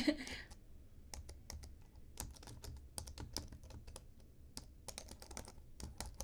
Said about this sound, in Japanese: まずはですね、いろいろお題がありまして、まずはパソコンのキーボードのタイピングですね。ではタイピングの音いきますよ。適当に。